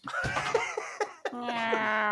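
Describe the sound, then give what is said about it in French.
A person voices a series of high, wavering meow-like cries, imitating a black cat being let in through a door, with brief pauses between them and a longer drawn-out mew at the end. “Tu fais vachement bien le chat.”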